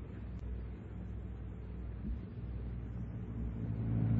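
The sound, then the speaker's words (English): A car engine idles steadily in a garage while someone works on the car, a continuous low rumbling drone that swells slightly toward the end. No voices are heard. “It was the car in the garage.”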